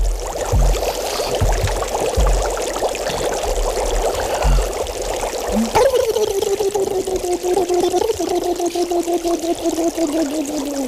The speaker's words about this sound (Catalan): Bombolles. Un jacuzzi d'un gimnàs.